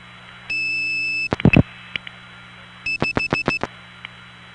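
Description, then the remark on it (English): A steady telephone tone cuts off into sharp clicks, then a quick, evenly spaced run of about five dial pulses clacks through the line as the digit 5 is dialed into the Rutland step tandem switch, with no voices. “That was a 5. Where's my dial tone?”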